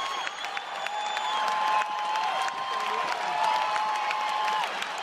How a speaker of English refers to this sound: The tennis crowd going wild there in the final very un-Wimbledon moments of the Rafael Nadal-Novak Djokovic U.S. Open final in 2013. The U.S. Open is known for its noisier crowds of celebrities and Ferrari drivers from the Hamptons.